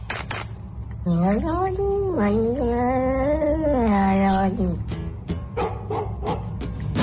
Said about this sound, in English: On the cat, the singing cat we had a couple of moments ago. Sounded like an old lady.